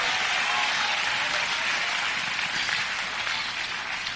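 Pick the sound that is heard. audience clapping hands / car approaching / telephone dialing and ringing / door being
audience clapping hands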